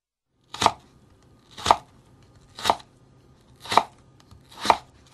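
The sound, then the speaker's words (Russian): A knife chops a carrot into thin strips on a cutting board for kempir, five crisp thuds falling at a slow, steady pace about a second apart, with no talking. “Нарезав морковь, займемся подготовкой красного кайенского перца.”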